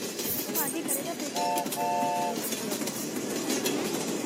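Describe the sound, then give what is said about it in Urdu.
A train sound effect: steady rumbling, clattering rail noise throughout, with two short, bright horn blasts near the middle, the second slightly longer than the first. “گاڑی اسٹیشن پر رکی ہے.”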